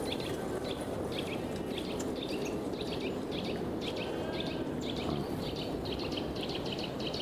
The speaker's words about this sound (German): Komische Geräusche von links, komische Geräusche von rechts, Vögel von oben.